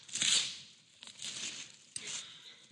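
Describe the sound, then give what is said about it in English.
Gift wrapping paper being torn open on a present in three quick ripping bursts, crisp with bright crinkling, each tear starting sharply and fading out. “Tear into this thing. Let's see what's inside.”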